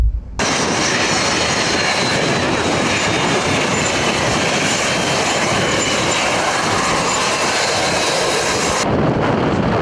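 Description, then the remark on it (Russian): A loud, steady roar of jet engines from the airplane carrying Patriarch Kirill of Moscow landing on his visit to the Don region, continuous for several seconds with no voices, the high hiss dropping away abruptly near the end. “Вот сейчас, через некоторое мгновение, самолет приземлится, и мы встретим патриарха Кирилла.”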